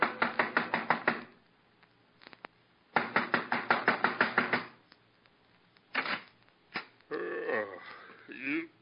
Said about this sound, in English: banging on the right door, mister?